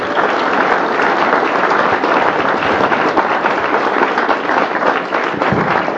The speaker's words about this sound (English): And I commend him for being here tonight to speak to us. Can we give him a round of applause to have him?